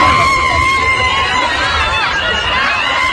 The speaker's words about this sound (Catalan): els crits d'una manifestant, una dona gran amb ulleres de sol i una bandera d'Espanya posada com a capa a plaça Sant Jaume de Barcelona protestant contra l'amnistia.